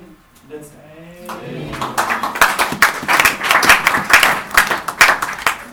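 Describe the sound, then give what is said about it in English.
A voice trails off, then an audience breaks into clapping that swells quickly into steady, dense applause from many hands, loud, continuing to the end. “I'm sure everybody who clapped will be on Friday.”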